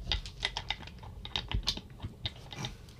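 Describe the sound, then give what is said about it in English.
Dice rattle and clatter inside a dice box, rolled during a player's turn in a dice game, a quick run of sharp, irregular clicks and knocks for a few seconds, with no one speaking. “It's kind of tough with the dice box.”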